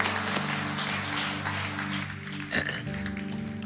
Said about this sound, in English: Come on, let's give a round of applause to all those that prayed that prayer. Amazing.